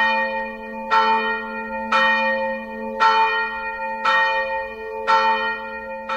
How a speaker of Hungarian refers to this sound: Hallottuk, hogy milyen szépen szól a Ferences templomnak a harangja.